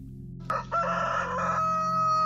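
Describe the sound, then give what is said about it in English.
A rooster named Grigsby, heard at night from a hedgerow, lets out one long, loud crow that begins abruptly and holds a strained, harmonic tone for nearly two seconds, with a steady low hum running underneath throughout. “I thought I buried Grigsby, but 3 nights after the burial, I heard him crow.”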